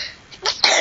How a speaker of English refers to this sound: Oh. Bless you.